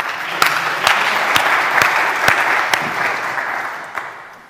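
A crowd applauds steadily for several seconds, a dense wash of clapping with a few sharper individual claps standing out, fading slightly toward the end. No one speaks.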